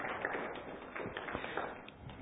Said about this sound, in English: That clap was weak, so that probably means you were clapping for me. Clap for them now. Yeah, there you go.